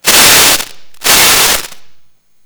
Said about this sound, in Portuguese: Aí, ó, deu até um temporal aqui.